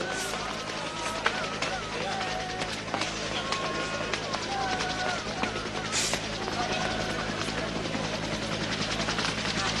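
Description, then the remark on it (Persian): A helicopter's steady, thudding rotor drone fills the whole stretch, loud, while voices call out over the constant engine noise. “هلیکوپتر حاضره، میتونی بری.”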